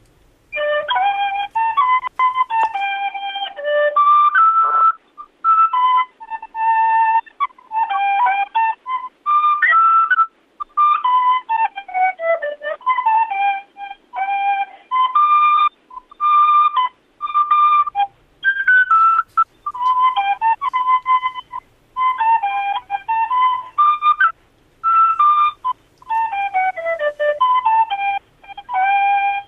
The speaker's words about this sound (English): On the tin whistle. Bringing it back for 2011.